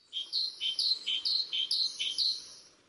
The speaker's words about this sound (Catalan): Doncs avui us porto un ocell molt proper. Això que sentim és una mallarenga carbonera, que és un ocell que podem escoltar a parcs i jardins, en zones molt properes on estiguem les persones, un ocell bastant confiat